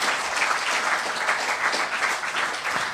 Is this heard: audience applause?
yes